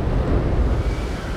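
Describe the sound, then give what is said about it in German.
A raging storm sound effect played by a theatre's sound department: a steady, loud roar of wind and rumbling low noise with no pauses, like a gale blowing hard throughout. “Und dann zieht ein tosender Sturm auf. Kommt sofort aus der Tonabteilung.”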